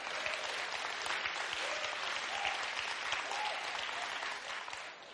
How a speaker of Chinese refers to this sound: 弟兄拍手啊，弟兄。